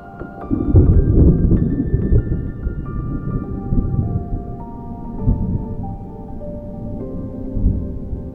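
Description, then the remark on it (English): A thunderstorm with rain, with a deep rolling rumble that swells early, then continues as a steady low roar for several seconds before surging again near the end. No voices are heard. “Then, the storm came.”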